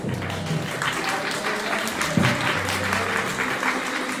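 An audience applauds steadily for about four seconds, a dense, even wash of many hands clapping at a constant loudness, with faint voices mixed in underneath.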